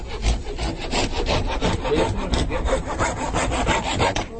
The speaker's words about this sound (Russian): И вот дама, которая демонстрирует волшебные пилы, которые все перепиливают.